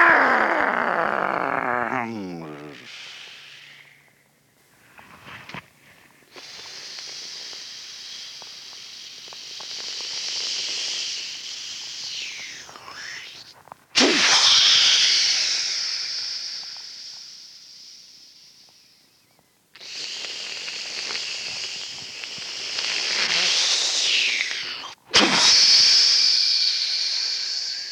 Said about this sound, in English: Sound of the waves. And you can sit and listen to the little waves on the seashore.